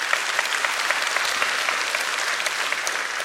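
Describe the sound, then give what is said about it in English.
A church audience applauding together, a dense, steady wash of many hands clapping with sharp individual claps popping out, holding at an even level throughout with no voices heard. “But if you're you can clap for that.”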